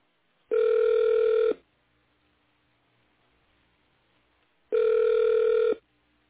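Two long, steady electronic ringback tones, each about a second, separated by several seconds of quiet line hiss, as a phone call rings through before being answered.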